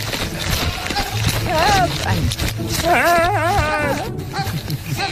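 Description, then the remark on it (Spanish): A goat bleats in a few quavering, almost human-sounding cries, one short call followed by a longer wavering run, over a steady outdoor background rumble. “Qué bien, Era una cabra.”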